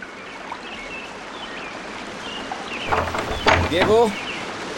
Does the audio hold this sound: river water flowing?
yes